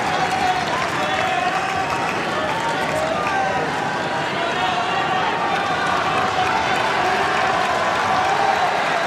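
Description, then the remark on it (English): A large tennis crowd at a match roars with sustained cheering and applause, sensing an opportunity for Djokovic in the fourth set; a dense, loud wash of noise that holds steady for the whole stretch without letting up. “Crowd sensing an opportunity for Djokovic here.”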